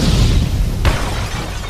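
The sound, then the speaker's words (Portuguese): An explosion sound effect: a loud, sharp blast cracks out mid-clip over a deep, continuous rumble, with no voices present. “explosão”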